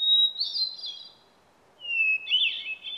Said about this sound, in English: Listen to the interlude for the clear, flute-like notes of the hermit thrush. You will be delighted by its haunting musical notes.